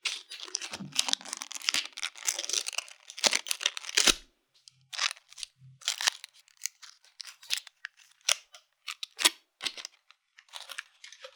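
Foil wrappers on Ferrero Rocher chocolates being unwrapped, a dense, bright crinkling for the first few seconds, then sparser crackles and small rustles in irregular bursts, with no talking.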